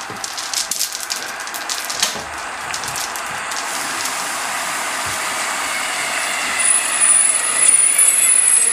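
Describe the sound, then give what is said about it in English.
A bus engine rumbles steadily while sharp hissing bursts of air brakes sound in the first few seconds, and a thin high-pitched whine rises near the end. Nobody speaks. “I've got the bus sound.”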